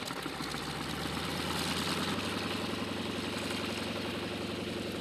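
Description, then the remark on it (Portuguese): An airplane carrying seeds for aerial sowing over Mangualde, Nelas, Gouveia, Oliveira do Hospital, Tondela and Ceia: its engine drones steadily throughout, with a low rhythmic throbbing under a broad, hissing roar. It stays loud and continuous, and no one speaks. “a ver os aviões que levam sementes”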